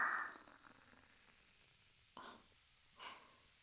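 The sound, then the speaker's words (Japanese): Soft, steady fizzing of carbonated water in a glass as it is poured to mix a drink, a quiet crackle of popping bubbles with a couple of brief brighter surges partway through. No one speaks. “あとは炭酸水で割るだけです。シュワーっといい音がするので注意深く聞いてくださいね。”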